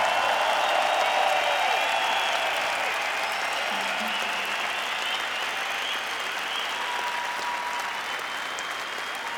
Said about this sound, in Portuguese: Mas vamos fazer muito barulho para eles, vamos sem dúvida dar um grande, grande aplauso a quem está por trás do palco.